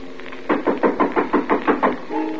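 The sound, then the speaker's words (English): A quick, even series of about eight firm knocks on a door, each one sharp and fairly loud, over a faint steady hum with no voices. “Someone's at the door.”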